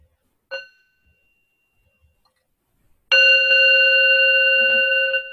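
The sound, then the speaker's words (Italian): A bell rings: first a single quick, soft strike, then after a pause a loud, sustained ringing tone that hums steadily and fades slightly until the end, with no voices. “E quindi ascoltiamo un semplice suono di campana.”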